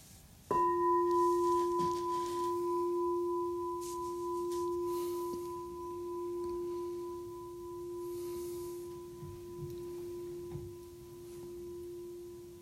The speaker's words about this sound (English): And we'll start and end with the bell.